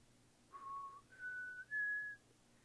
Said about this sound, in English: And anyway, my dad and I would play Name That Tune. I don't know if you all remember that show, but instead of sing the tune or play the tune, we would whistle the tune.